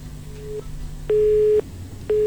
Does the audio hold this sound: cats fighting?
no